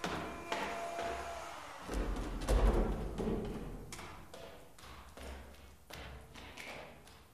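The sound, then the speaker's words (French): Footsteps climb a wooden staircase twice in a steady rhythm of dull thuds and taps, with a panning effect on the second climb and a low rumbling resonance under the steps and no voices. “Les deux montées avec un effet de panoramique sur le second.”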